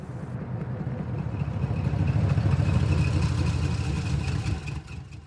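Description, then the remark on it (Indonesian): A heavy logging truck engine idles with a steady, low, throbbing rumble that swells slightly louder midway, with a faint rattling clatter over it and no voices, the truck stopped in front of a rice cake stall. “sebuah truk pengangkut kayu berhenti di depan warung kue beras ibu Yoni”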